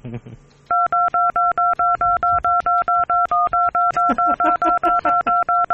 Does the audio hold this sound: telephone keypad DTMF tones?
yes